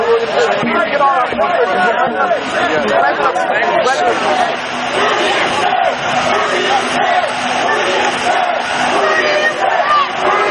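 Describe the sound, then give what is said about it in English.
A large crowd chanting and shouting together, a loud, dense mass of voices that carries on steadily for the whole stretch with no break. “I don't know what they're doing, but people are chanting, that's not safe.”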